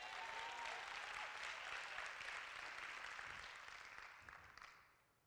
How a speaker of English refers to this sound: Just lift up your hands and say, I am prepared for where I need to go and what I need to accomplish in my secret place with you, God. Give my hand clap of praise.